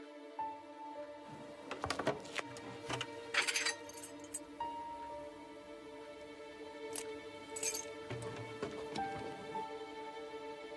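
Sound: keys jangling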